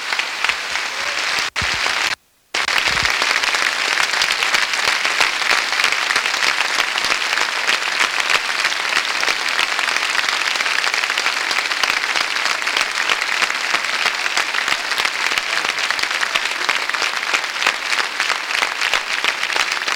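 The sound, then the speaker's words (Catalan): A large audience applauds loudly and steadily for the 761 injured, a dense wash of clapping that carries on for the whole stretch after a brief break near the start, with no voices over it. “Un aplaudiment pels 761 ferits.”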